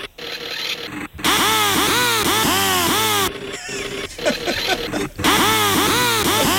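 A loud, harsh rasping tune played on a pneumatic drill, its pitch sliding up and down in repeated arching swoops, with a brief pause after the first second and another near five seconds.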